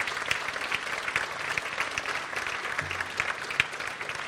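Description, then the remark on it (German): An audience claps steadily, a dense wash of many hands with sharp individual claps popping out, sustained at moderate loudness throughout without any voices. “Ich lese, ja gut, kann auch gerne geklatscht werden.”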